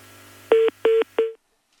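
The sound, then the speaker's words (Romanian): Three short electronic telephone-line beeps of an incoming phone call in a steady rhythm, fairly loud, with the last tone trailing off into silence. No voices are present. “Încă un apel telefonic.”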